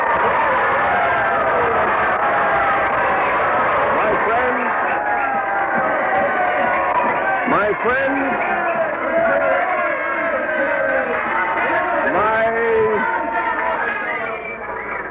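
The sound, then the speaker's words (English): A packed hall of people in Broadway Tabernacle cheering and shouting for a speaker, a dense, loud wall of overlapping voices that holds steady for the whole stretch and tapers slightly at the end. “The crowd's cheering him.”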